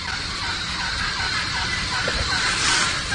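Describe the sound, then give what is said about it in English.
Several wild turkeys gobble and call back and forth outdoors in fall, responding to a person's turkey calling. Their rough, rattling voices blend into a steady chorus, with no one speaking. “Listen how the turkeys respond to the calling, and listen how I'm calling to these birds.”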